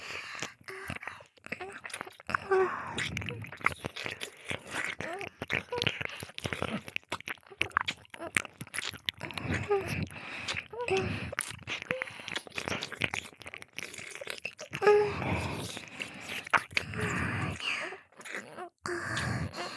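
Wet chewing and mouth sounds of someone eating cake, a steady stream of small sticky clicks and smacks with faint breathy murmurs throughout.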